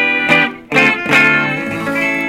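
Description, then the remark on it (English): Bright electric guitar on its treble pickup played dry straight into a small Fender Vibrochamp amp, a few strummed chords with crisp attacks and ringing sustain, loud, with no one talking. “This is actually the guitar right into the amp. middle pickup, that was the bass pickup. And treble pickup, so you can hear it.”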